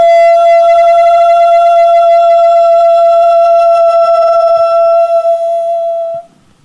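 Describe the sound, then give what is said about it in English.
A single voice exhales on a high, steady "O" vowel as part of a guided chakra breathing exercise, sustaining one unwavering pitch for about six seconds, loud and rich in overtones, then the tone cuts off into a quiet breath. “once up into the seventh chakra, we'll sip as if through a straw and out on a high O sound.”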